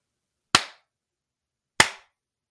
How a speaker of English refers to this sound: Are you a man? Clap once for yes and twice for no.